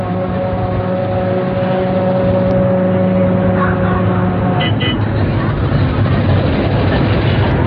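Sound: inside a moving bus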